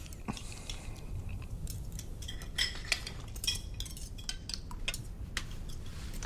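Cutlery clinks and scrapes against plates as a young lieutenant dines with a family and the grandfather, in scattered, irregular taps, bright and fairly faint over a low steady hum, with no one speaking.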